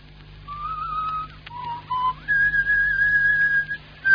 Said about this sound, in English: That whistle of yours. It's the most fiendish way to drive someone out of their mind